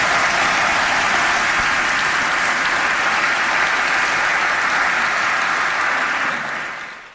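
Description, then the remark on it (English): Sustained applause from an audience for speakers Chris and Dr. Matei, a dense steady wash of many hands clapping at full volume for several seconds before it tapers off at the end. No voices stand out. “Let's first of all hear it for Chris and Dr. Matei.”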